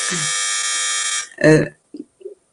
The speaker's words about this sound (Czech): Tak a já se budu muset asi odloučit, že někdo zvoní.